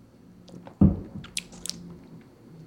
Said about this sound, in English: We're having a winter lager from Brew Detroit. Winter lager from Brew Detroit. Okay. It's a spice lager with cinnamon, nutmeg, and ginger. Let's have a little sip.